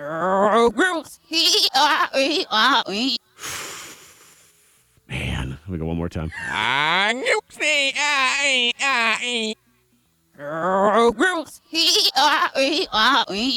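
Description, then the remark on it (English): A single goat bleats with a wavering cry, followed by a longer stretch of several goats bleating together. People talk before and after the animal calls. “We're listening for the GOAT, followed by the GOATs.”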